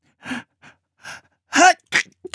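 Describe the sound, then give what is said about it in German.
A few sharp, breathy intakes build up before one loud, explosive sneeze, followed by a couple of shorter sniffing breaths; the sneeze of Schwarzer Falke, a character lying beside a bison. “Schwarzer Falke nieste.”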